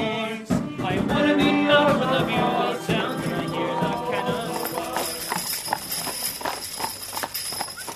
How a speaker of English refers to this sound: is warming up her horses, Pete and Polly, for 4 months of stagecoach tours.